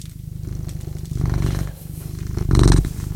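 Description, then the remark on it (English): A cat named Morrissey purrs steadily at CFRC 101.9 FM in Kingston, a low rhythmic rumble that swells in loudness partway through, with no talking over it. “and you're with me and my cat, Morrissey, the good-looking and pleasant to be around.”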